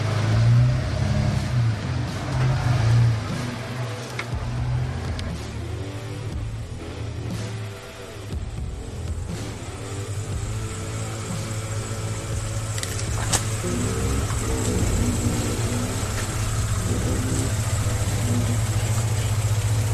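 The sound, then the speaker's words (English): A truck engine labors steadily climbing up a waterfall, its deep low rumble continuous throughout, with slight shifts in pitch as the revs rise and ease. “If ever, my truck basically walks up pretty much anything, even in the rain.”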